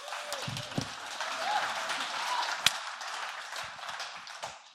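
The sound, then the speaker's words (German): Sustained applause from an audience for everyone who spoke that morning, a steady wash of many hands clapping throughout, with a few sharper individual claps standing out and a faint voice or whoop mixed in. “Applaus für alle, die etwas gesagt haben heute Morgen.”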